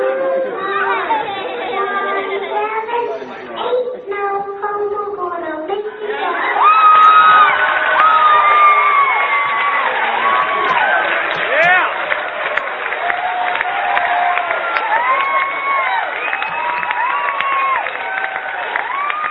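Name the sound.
crowd cheering and clapping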